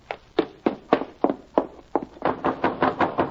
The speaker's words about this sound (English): Shut up that banging, Willie! All the time banging, that's what. I ain't banging, I'm knocking only.